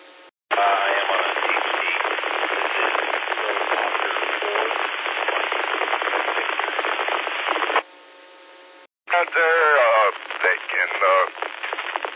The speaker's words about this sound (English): Now, I don't know if it's the repeater or if you're on a HT, but all I'm getting is static. Could you come back and try that again?